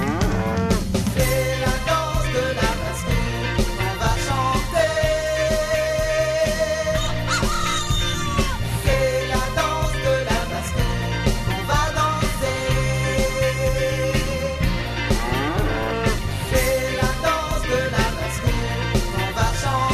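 A cow moos in a farmyard amid a busy, steady music track, its low drawn-out calls blending into dense instruments that play loudly and continuously throughout.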